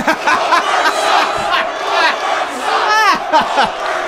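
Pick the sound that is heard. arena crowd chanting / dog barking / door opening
arena crowd chanting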